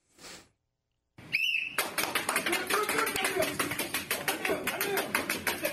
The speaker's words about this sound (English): Not clapping. No. That's his head. Yep. Yeah. Breaking nuts.